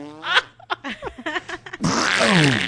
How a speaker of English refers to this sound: Nice. This is what I did at the end. I just farted on their faces.